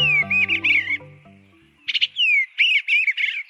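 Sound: eastern bluebird song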